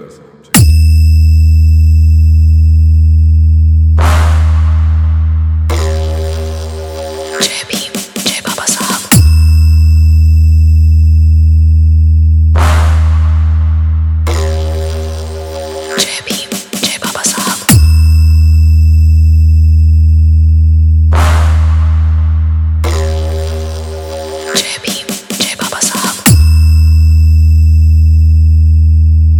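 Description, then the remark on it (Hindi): Loud, booming bass sound check tones from Navdeep Tanda of Ambedkar Nagar district repeat in three identical cycles: a sustained deep low drone, a sharp high sweep, then a burst of rapid crackling pulses before the drone returns. “तो आइए आपको ले चलते हैं एक धमाकेदार साउंड चेक की तरफ।”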